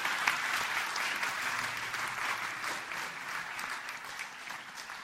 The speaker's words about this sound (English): Didn't the children's church do really well there? I want to give them another round of applause as they come off.